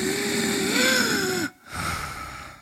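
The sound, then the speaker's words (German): A voice imitates the whistling, strained in-breath of croup stridor: a loud, tonal wheeze just over a second long with a slight pitch rise, then a short pause and a rougher, breathier second breath. “Ja, beim Pseudokrupp hat man eben so einen pfeifenden, inspiratorischen Stridor. Ich kann es mal gerade nachmachen.”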